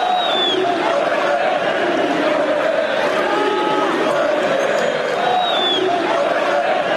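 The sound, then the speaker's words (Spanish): A minority of the crowd at the Camp Nou stadium chants insults at Vinicius in unison: a loud, steady roar of many voices with rhythmic swells and a few shrill whistles cutting through, unbroken from start to finish. “Atención, porque ayer se escucharon en el Camp Nou, por parte del público, minoritario claro que sí, pero se escucharon estos gritos.”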